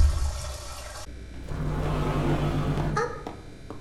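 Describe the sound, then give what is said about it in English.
Water rushes and churns steadily as a tank fills and the water level rises, a continuous gurgling wash with a low hum beneath it, loud, with no voices. “Wait, well, the water's rising. No. Yes, it will rise. It will fill the tank.”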